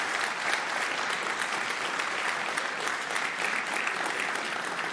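Sustained audience applause fills the whole stretch, a dense, steady wash of many hands clapping at even loudness with no break or fade.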